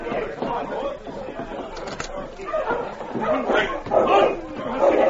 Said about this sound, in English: It seems to me I hear a dog team coming down the street. I do for sure.